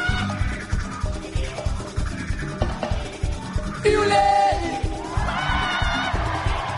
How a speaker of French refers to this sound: Si vous pouvez pas chanter, allez, criez. Criez pour vous libérer, criez.